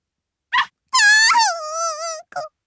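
A puppy gives a high, thin whine drawn out for about a second, sliding down in pitch and then wavering steadily, with a couple of short soft whimpers before and after, clear, as a girl slowly reaches her hand toward its head.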